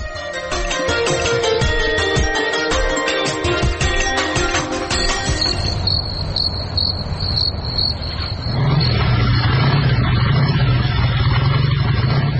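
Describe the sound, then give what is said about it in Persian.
Music fades into a steady high insect chirp, then in the final seconds a motorcycle engine rumbles in across the desert at midnight, a loud, low, continuous drone that swells as it approaches. “کماندان سب، اون موتورسیکل آمد، حتما مواد مخدر بار کده.”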